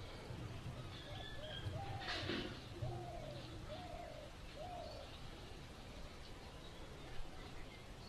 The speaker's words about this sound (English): I'm trying to figure out what the doves say here in Braj. They all say, Radhe Sham, Radhe Sham.